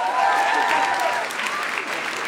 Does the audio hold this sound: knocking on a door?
no